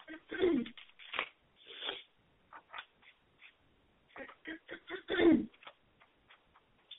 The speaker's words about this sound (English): So what I'm going to do is I'm going to gonna shuffle my cards, and we're going to do the oracle card reading.